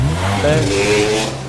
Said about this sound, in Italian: Ma com'è che vanno tutti con la moto qua, che sfrecciano con la moto?